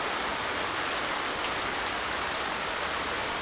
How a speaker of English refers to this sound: It's raining.